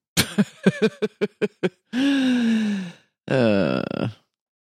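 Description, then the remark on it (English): A voice mimics snoring, clear: a quick run of about seven short guttural pulses, then two long, drawn-out rasping breaths with a falling pitch, one after another. “Snore.”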